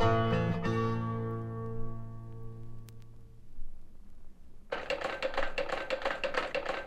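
A sustained musical chord rings out and fades, then an antique Jackson hand drill, made in Denver in 1898 and used mainly in coal mines, starts up with a fast, steady run of dry mechanical clicks and rattling that continues to the end.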